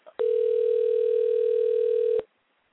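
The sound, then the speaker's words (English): A phone line rings on an outgoing call: one steady, electronic ringback tone held for about two seconds, loud and clear with no voices, then it cuts off into silence. “I'm trying to get Tony Bonds on the phone for you right now”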